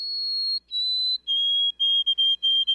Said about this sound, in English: Some birds have well-known mnemonics, like the "Oh, sweet Canada, Canada, Canada" of the white-throated sparrow.